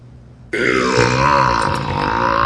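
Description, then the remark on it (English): A long, loud, resonant burp erupts abruptly after a brief quiet moment, sustained for about two seconds with a rumbling, throaty tone, dominant with no talking over it. “burps.”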